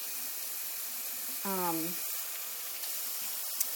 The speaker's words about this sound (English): I'm going to run some water. I don't wash most of my plastics. So, I don't put those in the dishwasher. I wash them by hand. So, I'm going to run a sink full of soapy water so I can do that.